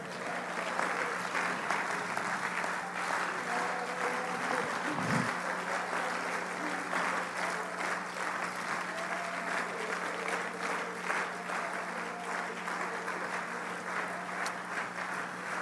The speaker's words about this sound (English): Everybody stand on your feet and clap your hands unto the Lord. Can you? Can you lift up your voice for a moment? Come on, clap those hands again unto the Lord.